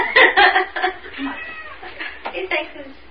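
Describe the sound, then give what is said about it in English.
A cat meows several times in quick, uneven bursts, fairly loud, with some drawn-out, wavering cries and faint background murmur underneath. “That's a smart kitty cat.”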